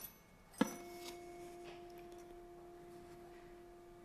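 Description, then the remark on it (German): A tuning fork is struck once with a sharp tap, then rings as a steady, pure mid-pitched tone with a faint higher overtone, sustaining evenly for several seconds. No voices. “Ich habe jetzt da verschiedenste Stimmgabeln.”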